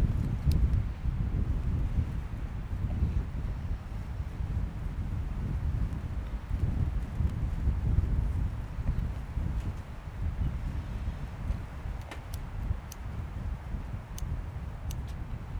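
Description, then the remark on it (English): A strong gust of wind roars outdoors on a windy day, a steady low rumble buffeting the microphone for several seconds with occasional faint clicks, no voices present. “Now that's a gust.”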